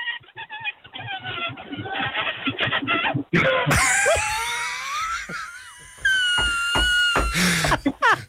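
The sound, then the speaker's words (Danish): A caller to a nationwide radio program imitates a balloon with squeaky, wavering whines and gliding squeals, first thin and telephone-like, then fuller and louder with long stretched squeaks and a few sharp bursts. “Da du stod op i morges, da Vækkoet ringede, tænkte du, havde du nogen som helst forestilling om, at du kunne komme til at skulle ringe til et landsdækkende radioprogram og sige som en ballon?”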